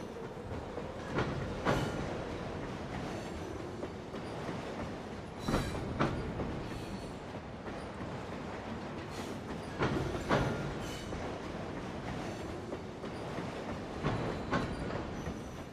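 A train rumbles steadily along the rails, its wheels clattering over the joints in recurring pairs of clickety-clack every few seconds. It is fairly loud, with no voices.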